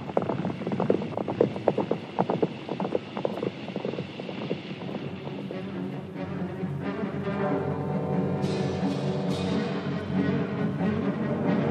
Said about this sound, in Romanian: Hai, sui aici pe mâna mea și să pornim. Repede, pe cai, galop.